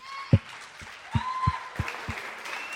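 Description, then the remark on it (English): Scattered audience applause at a church gathering, welcoming a guest speaker who was a Baptist church pastor, beginning with a few distinct claps and building into a soft, uneven patter of hands. “So why don't we give him a round of applause?”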